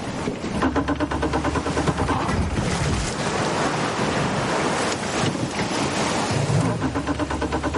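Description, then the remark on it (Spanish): The engine of Tyler's motorboat drones steadily on a river, its low hum mixed with rushing water and gusts of wind buffeting the microphone throughout, with no one speaking. “La lancha de Tyler está en el río.”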